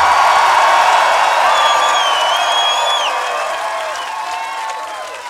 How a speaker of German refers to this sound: An dieser Stelle ist es mir eine ganz besondere Freude, mit eurer Hilfe unserem Lieblingsschankwirt Tom von der Drachenschenke zu danken. Einen ordentlichen Applaus für unseren Freund Tom.